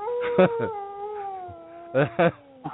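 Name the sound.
wolf howl sound effect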